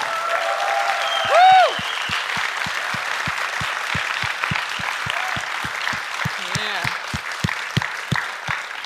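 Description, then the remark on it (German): An audience in a hall applauds the writers and composers of the evening, the clapping settling into a fast, even rhythmic beat, with a brief whoop and scattered voices rising over it. “Bitte eine Runde Applaus.”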